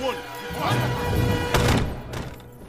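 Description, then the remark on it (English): A man closes the doors of the American History Hall behind him, with two fairly loud thuds about half a second apart over a busy background of sustained tones and murmuring sound. “He closes the doors behind him on some Eskimos.”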